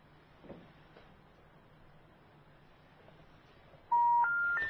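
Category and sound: signal or alarm, telephone number being dialed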